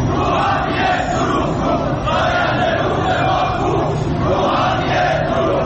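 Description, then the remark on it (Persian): A large crowd of farmers chants slogans loudly and continuously outdoors, many voices merging into a dense roar with a rising and falling rhythm, protesting the transfer of Zayandeh Rud river water to Yazd. “سال اعتراض‌های شهروندان به بی آبی و مدیریت نامناسب آب و انتقال آب از استانی به استان دیگر، از خوزستان گرفته تا فارس و اصفهان، با کشاورزانی که در اعتراض به انتقال آب زاینده رودشان به یزد دست از اعتراض و تجمع و شعار بر نداشتند.”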